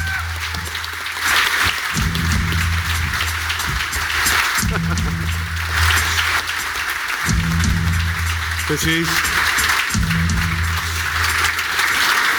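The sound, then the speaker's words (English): An audience of home and away supporters claps and cheers to welcome a special guest, in a steady, loud wash of applause lasting about twelve seconds, with voices in the crowd and a low bass thump repeating underneath. “Now, please give him a nice reception.”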